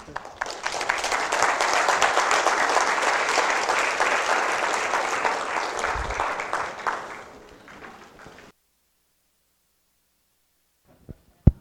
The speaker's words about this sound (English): If you appreciate it, let's give him a good round of applause again.